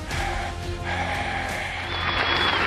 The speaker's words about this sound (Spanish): Ay, mira, me aplaudieron hoy y ni siquiera es mi cumpleaños.